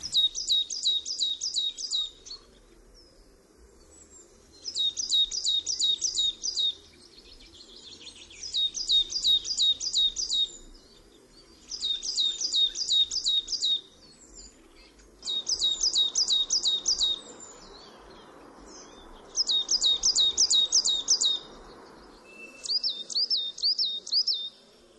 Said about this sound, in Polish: Dwusylabowy słychać lepiej w miejskim ruchu. Zrobiły to po to, żeby zwabić partnera i móc obronić swój rewir. Natomiast sikorki, które żyją poza miastem, pozostały przy pierwotnym głosie.